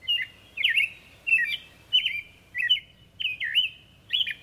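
Birds chirping in a steady series of about seven bright, high-pitched bursts, each a quick twittering phrase repeated roughly every half second, with no voices present.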